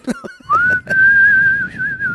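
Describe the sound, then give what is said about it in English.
A person whistles through their lips: a brief clicky, breathy start, then one long steady whistled note that slides up at first and wavers slightly as it holds. “Yours whistles.”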